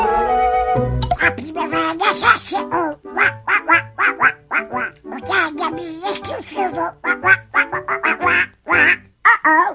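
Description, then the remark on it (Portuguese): Disney's Donald Duck babbles in his raspy, quacking voice in rapid, choppy bursts, loud, after a short sustained tone at the start, with light rhythmic music underneath. “O Pato Donald completa hoje 89 anos.”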